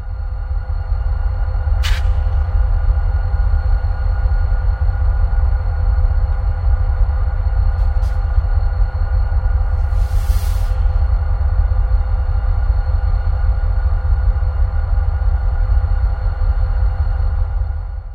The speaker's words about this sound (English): It's all kinds of things one can do when you're on a stalled train in the middle of nowhere.